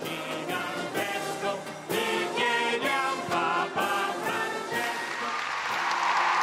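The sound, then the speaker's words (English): A crowd of middle school students of I Cavalieri (the Knights), from Italy, Spain, Portugal, France and Switzerland, sings together loudly at an encounter with the Pope, with steady rhythmic clapping and scattered cheers mixed in, the voices swelling a little toward the end. “After lots of lively singing and cheering”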